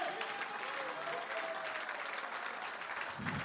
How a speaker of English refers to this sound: Come on, clap your hands.